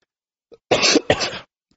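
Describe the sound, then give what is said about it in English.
A small throat catch followed by two harsh coughs in quick succession, each a loud burst of rough breathy noise, with no talking. “Over a period of time, and I'm going to cough here in a second, so I better.”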